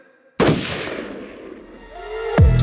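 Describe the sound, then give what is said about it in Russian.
A single loud gunshot cracks out suddenly and rings off in a long reverberant decay, followed by a rising whine and a sharp click near the end. No voices. “Ружье в моих руках, и оно выстрелит.”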